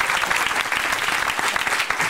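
An audience applauds steadily, many hands clapping in a dense, bright wash of sound with no pauses and no talking over it.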